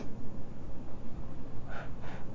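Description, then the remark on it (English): Two quick sniffles through the nose near the end, preceded by a stretch of low, steady background noise with no talking. “Watch me sniffle.”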